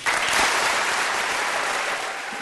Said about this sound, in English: There was applause like this in waves, and it went on for several minutes.